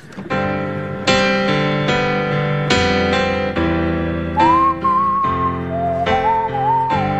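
Sustained keyboard chords play steadily, and about halfway through a clear, pure whistled melody enters on top, gliding between notes for the last few seconds.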